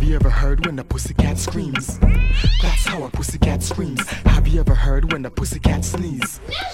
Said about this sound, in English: Have you ever heard when a pussycat is fighting? Dogs chasing cats and it sounds so exciting.